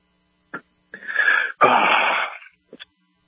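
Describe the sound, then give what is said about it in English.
A loud sneeze: a raspy in-breath builds for half a second, then a sudden breathy burst trails off, followed by a couple of faint clicks. No one speaks. “God bless you.”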